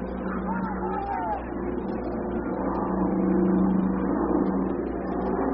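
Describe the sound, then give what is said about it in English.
An airplane passes directly overhead during an afternoon baseball game involving Kansas City, a steady, broad, low engine roar that swells slightly louder in the second half, with faint muffled voices. “Perhaps you can hear the plane coming directly overhead.”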